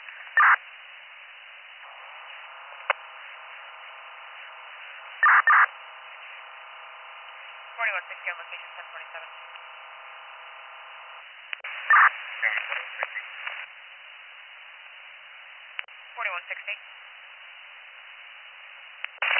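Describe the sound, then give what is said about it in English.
Clark County police radio scanner static: a steady, thin radio hiss punctuated by sharp bursts and crackles, with faint, garbled voice-like tones buried in the noise and no clear speech. “There was some static.”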